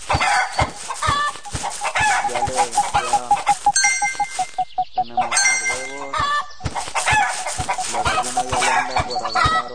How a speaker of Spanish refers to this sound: Otra vez la gallina.